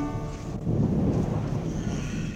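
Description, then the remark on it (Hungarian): A deep, rolling rumble of thunder from a thunderstorm fills the short stretch, a steady low roar that swells slightly midway and holds without breaking, with no voices. “Elköltött a zivatar.”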